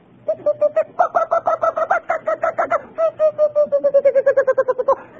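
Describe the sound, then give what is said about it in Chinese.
Various birds calling in a morning chorus in the countryside, loud, rapid runs of repeated short notes, steady, in two long bursts with a brief pause between them, with no talking. “各式各样的鸟在那里叫，鸟语花香啊，这不是个形容词啊，鸟子在那里一个音乐大学中。”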